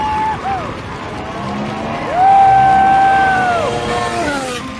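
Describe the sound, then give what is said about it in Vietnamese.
A crowd roars and cheers at a Formula 1 race while high-pitched engine whines sweep up and down as cars pass, loud and continuous with some indistinct voices mixed in. “Cổ vũ đội đua công thức 1 của họ từ ghế VIP của Red Bull.”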